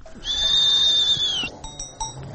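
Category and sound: animal, sheep and goats bleating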